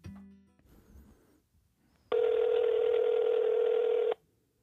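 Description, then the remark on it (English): An outgoing phone call rings once: a steady, loud, buzzy ringback tone lasting about two seconds, preceded by a few faint electronic beeps and low rustling, then it cuts off abruptly. “Look at me answering on the first ring.”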